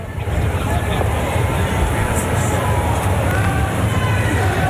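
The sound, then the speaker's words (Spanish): A loud, steady roar of crowd noise from pro-Kast supporters, many voices shouting and calling together in a dense, continuous wash of sound that doesn't let up, as the president arrives accompanied by the Senate president and the president of the Chamber of Deputies. “Ustedes escuchan los gritos de fondo.”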